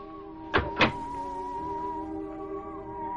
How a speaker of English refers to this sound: Then he closed the door to his room, and I was able to hear no more.